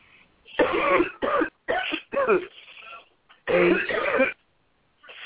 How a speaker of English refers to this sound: Now, sister, just take a deep breath and cough from your belly and inhale.